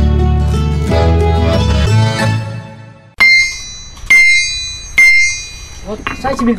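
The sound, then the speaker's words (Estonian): After a few seconds of voices, a visitor strikes an anvil with a hammer three times, as tradition requires at Soome Seppa farm in Pöide, about a second apart. Each blow rings out with a bright, high metallic tone that slowly fades. “Traditsiooni kohaselt juhatab ta külalised alasi juurde ja seal tuleb haamriga kolm korda alasile lüüa.”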